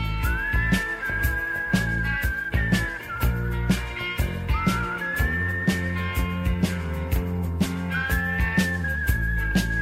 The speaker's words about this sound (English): He remarkably finds a little bit of pitch during the whistling parts of this song.